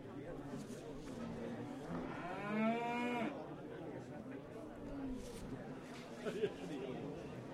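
An Aberdeen Angus cow lets out a single loud, drawn-out moo lasting about a second, over a steady murmur of background chatter and mechanical noise.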